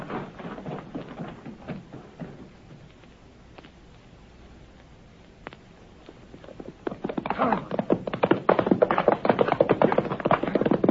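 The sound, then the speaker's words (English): Horses' hooves gallop in a rapid, rhythmic pounding, quieter at first, then growing louder in the second half. “Get those horses.”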